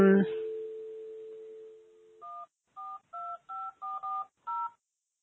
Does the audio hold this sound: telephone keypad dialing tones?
yes